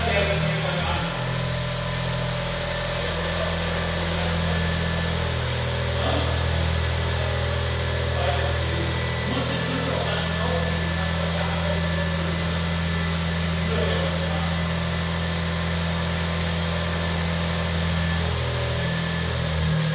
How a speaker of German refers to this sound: So, das Brummen, was ihr hört, das, ob ihr es glaubt oder nicht, ist der Smart Roadster